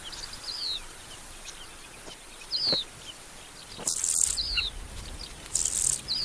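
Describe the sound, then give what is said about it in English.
Carmine bee-eaters on the African savanna give short, chirping calls, several scattered notes with a few louder, sharper bursts near the end, over a soft, steady outdoor hiss. No one speaks. “Carmine bee eaters are superb aerial hunters.”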